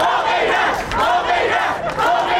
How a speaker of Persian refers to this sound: در روم، پایتخت ایتالیا، تظاهر کنندگان ایرانی به زبان ایتالیایی شعار می دادند تا پیام آزادی خواهی هموطنانشان را به گوش سایر شهروندان این کشور برسانند.